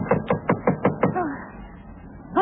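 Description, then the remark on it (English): Six quick, evenly spaced knocks on a front door by a Coast Guard officer, firm and fairly loud, followed by a short vocal sound and a brief pause before another voice sound at the end. “Who's there? Front door. Who's there?”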